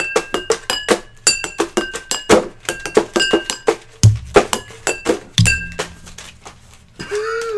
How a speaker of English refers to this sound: Oh, we can't end it until you do your drum outro.